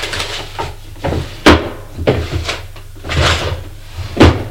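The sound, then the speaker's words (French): Drawers in a study being pulled open and pushed shut by a woman searching through them, several quick wooden knocks and sliding rattles in an irregular rhythm, fairly loud, with no one talking. “Cherche dans les tiroirs.”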